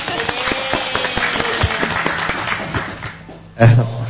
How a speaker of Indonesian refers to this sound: Boleh tepuk tangan dong, boleh.